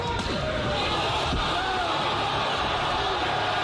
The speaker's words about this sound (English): Sounds like somebody else getting knocked out. That's a 220-pound man slapping a 260-pound man. Yeah, the 260-pound man goes to the ground.